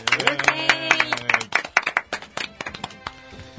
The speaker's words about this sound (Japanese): 拍手。